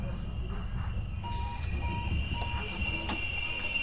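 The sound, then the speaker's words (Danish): A train rumbles in at Hovedbanegården station, a heavy low roar under a steady high-pitched whine, with short electronic beeps repeating in a regular rhythm throughout. “Jeg hopper ud af toget på Hovedbanegården.”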